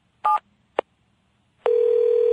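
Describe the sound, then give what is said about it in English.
Two short electronic keypad beeps sound in quick succession, then a steady, loud telephone tone starts and holds as a man dials his home number on a phone. No one speaks. “Mr. Williams picked up the phone and dialed his home number.”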